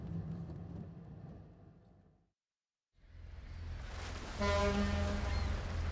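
A ferry's engine rumbles low and steady on a crossing to France, drops out briefly, then returns before a loud, sustained ship's horn blast sounds over the engine noise near the end.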